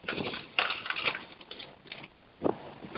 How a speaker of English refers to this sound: I'm getting a lot of background noise from somebody. Is rustling papers and moving chairs? Is a microphone open that shouldn't be?